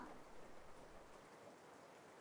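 rain falling

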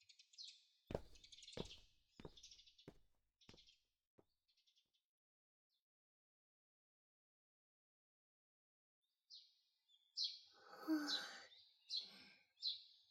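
birds chirping and singing

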